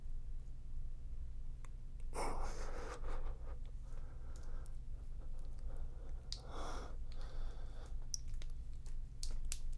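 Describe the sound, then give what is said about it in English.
A man snores softly in a quiet room, two slow, raspy breaths a few seconds apart over a low steady hum, with no one talking. “I can hear your dad snoring.”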